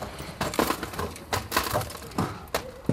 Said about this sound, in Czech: Tak ještě nějaký poslední sklo nám tam vypadalo.